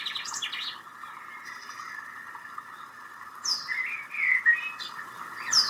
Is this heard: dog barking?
no